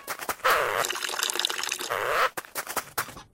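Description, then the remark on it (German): A steady stream of liquid splashes loudly and continuously for about two seconds, a police officer urinating during a brief stop on a car journey, then cuts off into a few short trickles and drips. “Da werden wir noch mal stehen bleiben müssen, nur mal kurz zum Blärme gießen.”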